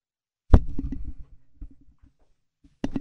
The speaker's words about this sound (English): That was a tongue I slapped on my mic. You know how ballplayers get decals on the back of their helmets when they make a big play? When I have a strong rant or a strong take, I slap a tongue on my mic. It's like my logo.